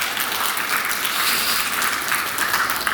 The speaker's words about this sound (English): I think that's a great moment, and I think we should clap. Yeah.